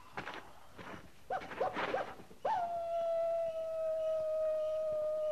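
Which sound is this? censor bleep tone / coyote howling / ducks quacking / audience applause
coyote howling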